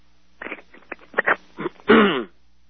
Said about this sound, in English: I got a little frog in my throat this morning. Let me take a drink here and clear my throat.